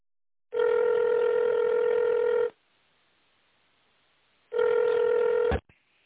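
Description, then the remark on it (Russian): A telephone ringback tone while waiting for an operator after calling the Russian firm Yargor Teploenergo: a steady, buzzy electronic tone lasting about two seconds, a two-second pause, then a second tone that cuts off abruptly with a click. No one speaks. “Наберите внутренний номер сотрудника или отдела, или дождитесь ответа оператора.”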